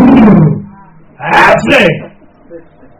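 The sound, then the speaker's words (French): A person imitates a lion's roar with a loud, throaty growl, followed by a second, raspier roaring burst that breaks into breathy noise before fading out. “Un lion. On met le visage à côté. Mais le cri seulement. Le régissement.”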